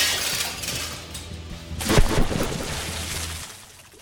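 A window pane smashes with a loud crash midway through as people, including Jean-François Copé, jump out of it toward a swimming pool below; scattered shards then tinkle and rattle down amid a noisy wash before fading out. No voices.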